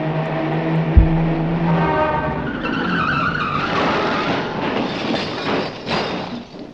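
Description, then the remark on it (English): A car engine whines in fast, going 70 miles an hour, then the tires let out a long, loud screech as it brakes hard to a halt at an Esso service station. No one speaks. “Groucho, you know you were going 70 miles an hour.”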